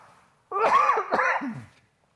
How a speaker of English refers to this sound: Excuse me, I got a cough.